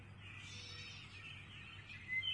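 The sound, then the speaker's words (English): Parakeets chatter in a steady, busy stream of high chirps and squawks, slightly louder near the end, over a low background rumble. “Let's chuckle like the noisy parakeets.”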